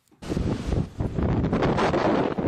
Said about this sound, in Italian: Il rumore del vento impetuoso che soffia incessantemente sulla nota isola turistica di Creta.